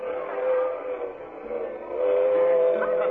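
train running on rails

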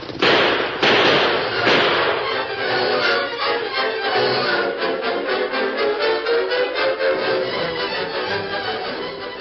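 galloping horse hoofbeats

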